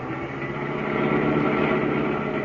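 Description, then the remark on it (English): A car engine drones steadily as the car is driven fast along a narrow road, a continuous mid-to-low rumble with a harmonic hum that holds fairly loud and even throughout, with no voices. “Can't you go faster, driver?”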